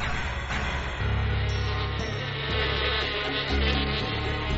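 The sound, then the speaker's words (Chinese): A steady buzzing hum drones on for several seconds, thick and low with shifting pitch, like a bee in flight; no one speaks. “这是一个宁静的早上，小蜜蜂来不及吃早餐就去上学了。”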